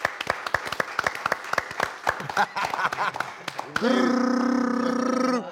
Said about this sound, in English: I need everyone to participate. Everyone in the room, let's give a round of applause.